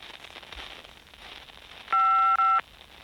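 An answering machine beep: a steady electronic tone, loud against a faint hiss, broken into a longer burst and a short second one with a tiny gap between them. No voices.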